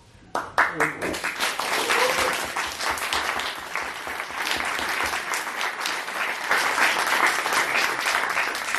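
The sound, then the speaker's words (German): An audience at a public event about the forest at Mundenhofer Straße and the Langmattenwäldchen bursts into sustained applause for two people, a dense, steady wash of many hands clapping that holds strong for several seconds, with a few brief voice fragments at the very start. “Vielen Dank für den Applaus für die beiden.”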